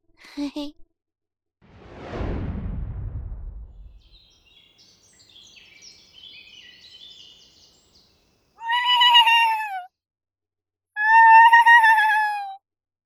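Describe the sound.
A human voice imitates a horse's neigh with two loud, close, wavering cries that slide downward in pitch, following a breathy whooshing exhale and a quiet stretch.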